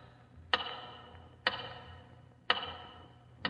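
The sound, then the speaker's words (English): A big tower clock ticks loudly and steadily, four sharp clacks about a second apart, each one ringing out briefly over a faint low hum, with no one speaking. “Once again, your eyes wander to the big tower clock.”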